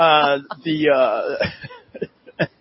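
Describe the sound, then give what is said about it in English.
A few short, rough coughs and throat-clearing bursts from a person, scattered between drawn-out voiced vocal sounds, loud at first and trailing off into sharper isolated hacks. “I've got to step away from the cough.”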